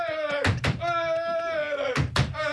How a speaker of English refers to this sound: Stop banging on the table. Get out.